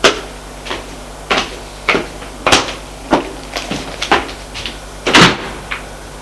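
A window in a living room being opened: a string of about ten sharp wooden clunks and rattles at uneven intervals, the loudest near the end, over a low steady hum with no voices.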